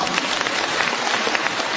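Steady applause from a crowd fills the moment, a dense, even patter of many hands clapping at once with no voices over it.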